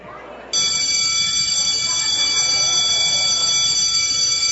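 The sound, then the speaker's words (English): A school bell starts ringing after a brief pause and keeps going without a break, a loud, steady, high-pitched electric clang that holds for several seconds. “There's the bell.”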